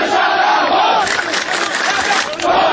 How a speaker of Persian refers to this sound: بخش هایی از این اعتراض ها و شعارها در شبکه های مجازی منتشر شد و عواقب اجتماعی انتقال آب یک رودخانه که خوزستانی ها از آن خود می دانند تازه مطرح شد.